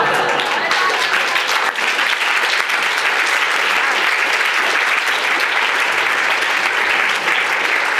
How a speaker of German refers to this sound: Nochmal einen ganz herzlichen Applaus.